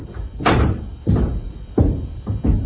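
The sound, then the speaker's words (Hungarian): A right-hand door bursts open with a heavy bang as someone enters, followed by a few more loud, booming thuds at uneven intervals, with no voices. “végül a jobb oldali ajtón toppan be.”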